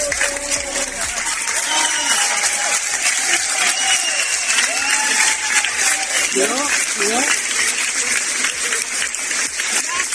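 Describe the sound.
A loud, sustained ovation at Tenerife Norte airport, La Laguna, for returning Brifor wildfire crews based in Punta Gorda: dense, rapid clapping from a large crowd that never lets up, mixed with scattered cheers, whoops and raised voices calling out over the applause.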